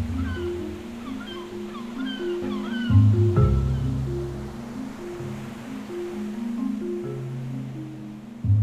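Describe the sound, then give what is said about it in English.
Several gulls squawk in quick, overlapping cries over a steady wash of ocean surf, the calls clustered early before fading, with a low droning rumble underneath and no voices. “And these sounds could be environmental sounds, like the waves, they could be people, they could be like the gulls that we can hear squawking right now”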